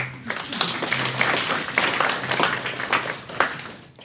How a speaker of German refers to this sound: hey, sie hat das super gemacht. He? Applaus.